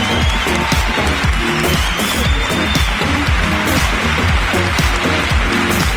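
Steady applause from an audience, a dense patter of many hands clapping at a loud, even level for several seconds, with faint cheering mixed in and no talking.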